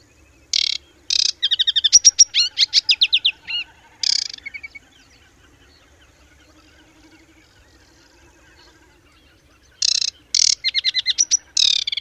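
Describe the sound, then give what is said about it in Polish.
An aquatic warbler sings loud, high-pitched strophes: a harsh rattle followed by a rapid series of clear repeated whistled notes. The song breaks off into a long pause, then a similar phrase resumes. “Gwizdy te stopniowo stają się coraz bardziej regularne i przeradzają się w typowe zwrotki.”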